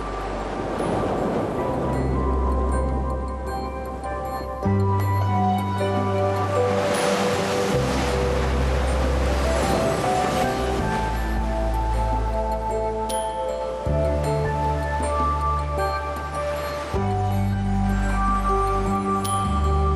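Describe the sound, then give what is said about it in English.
Ocean waves of moderate size break and wash onto the beach at Long Beach in steady, rolling surges, fairly loud, with a sustained musical tone playing underneath. No one speaks. “Today here on Long Beach, the waves are not too big and they're not too little either.”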